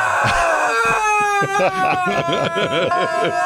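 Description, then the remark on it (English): A duck dog toy, squeezed and pushed down, lets out a long, wheezy honk followed by a quick run of shorter squawking squeaks, loud with no talking. “We squeeze the duck and we push him down.”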